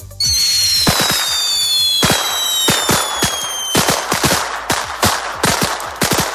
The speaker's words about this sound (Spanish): Llega la noche vieja y con ella el estallido habitual de petardos.